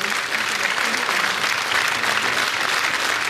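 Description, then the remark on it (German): An audience gives a speaker approving applause: a dense wash of many hands clapping at an even, moderately loud level throughout, with no pauses or swells. “Immer wieder bekommt er wohlwollenden Applaus.”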